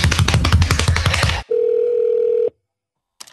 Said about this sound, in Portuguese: Você ligou para o WCast, deixe seu recado após o bip. Então, a gente tem uma secretária eletrônica, né? Uma secretária eletrônica, como bem mostrou nossa vinheta.